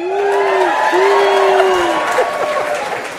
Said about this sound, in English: I pause for applause. You can't actually do that.